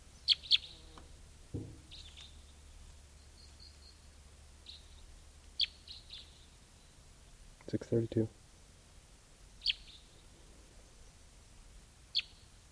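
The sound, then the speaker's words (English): A wild male bird sings in short, high-pitched chirps and brief phrases, spaced irregularly with pauses between, over a quiet background, with a lower, buzzy sound around the middle. “Here's the wild male who is singing.”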